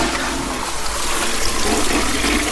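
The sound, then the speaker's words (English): A modern dual-flush toilet flushing, with a big button on top for a big flush and a little button for a little flush: a steady, loud rush of water that fills the whole clip at an even level, with no voices over it. “And just on the top here, it's got one of those dual flush thingies. The big button for a big flush, the little button for a little flush.”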